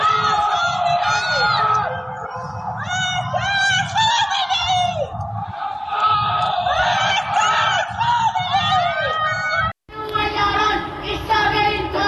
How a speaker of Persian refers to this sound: سه‌شنبه شب 21 بهمن 1404 جرقه های آتشبازی حکومت میخندند، اما از پنجره های تاریک خانه ها فریاد های ضد حکومتی در دل شب پراکنده میشوند.